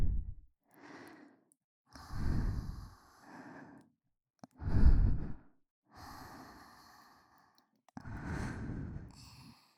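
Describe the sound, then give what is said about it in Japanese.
Soft, airy breaths blown onto the listener's ears to warm them, about half a dozen slow exhales with short pauses between, some stronger and sighing, with no talking. “冷たくなったお耳も吐息で温めようね。”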